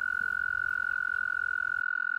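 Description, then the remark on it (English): Toads call by a pond in Ithaca on May Day in early spring, in one long, unbroken high trill that holds steady and fairly loud, with a soft low rumble of background noise beneath and no voices. “And down by the pond, where I am now, I'm beginning to hear the sounds of toads.”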